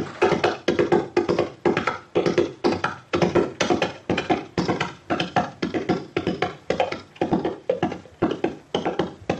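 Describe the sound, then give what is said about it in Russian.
Galloping hooves imitated by hand with light sound-effect devices weighted by stuffing them with wet earth and clay: fast, uneven triple-beat thuds repeat steadily for the whole stretch, dull and woody, with a loud driving rhythm and no voices. “Они были неимоверно тяжелые, и делать бешеный галоп руками.”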